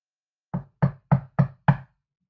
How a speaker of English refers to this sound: I never thought someone knocking on my door could be what gets me up and at them